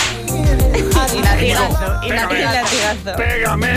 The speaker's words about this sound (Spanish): Y latigazo. ¡Pégame! ¡Azotes!